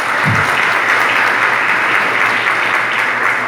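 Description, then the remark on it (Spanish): A crowd applauds steadily for a national team jersey with the World Youth Day logo presented to Archbishop Monseñor Ulloa, a dense, continuous wash of clapping that stays loud and even throughout, with no voices standing out above it. “Un aplauso.”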